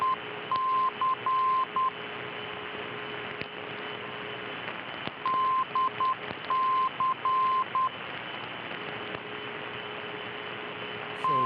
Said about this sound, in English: Okay, this is 332 kilohertz, and you can hear DC in Morse code over and over again. But if you listen carefully, you'll see there's another station on the same frequency.